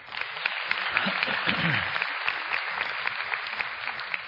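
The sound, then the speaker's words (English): A crowd applauds Pastor Jeff steadily for several seconds, a dense patter of many hands clapping at an even, sustained level with no voices standing out. “See, he just humbly looks down during that applause thinking, that's right.”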